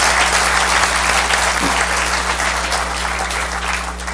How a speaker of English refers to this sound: Could I get a round of applause, please, for the Harvard Five?